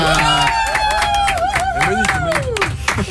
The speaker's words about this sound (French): Et applaudissements pour Monique. Ah oui, quand même. Monique la poule. J'applaudis pas trop fort, j'ai peur de lui faire peur à Monique.